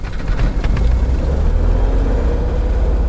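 The piston engine of a Cessna 180 light aircraft sputters and catches, then settles into a loud, steady, rumbling drone. No voices are heard.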